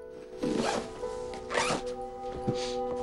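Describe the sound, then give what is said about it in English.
A zipper on a kit bag pocket is pulled in a few quick, rasping strokes after a medic's kit is put inside, at home in a kitchen, clear, with a steady low hum in the background and no one speaking. “puts his medic's kit into the pocket of his kit bag and zips it up.”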